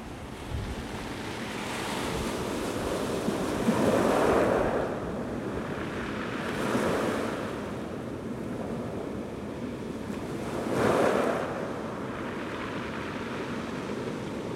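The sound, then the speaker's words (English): Steady ocean surf washing onto a beach on Easter Island, with broad waves swelling and breaking roughly every few seconds over a constant roar of water and wind, no voices present. “It's Beach Ocean Easter Island 135828.wave.”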